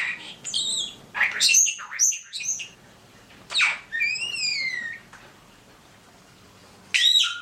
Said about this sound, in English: Well, because she's a social being, but she's also, as you write, starlings are, you know, one of the few birds that is a mimic. And first of all, she's talking, chatting all the time. Let's listen to a little of Carmen vocalizing.